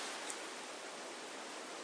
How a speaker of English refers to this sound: The brook.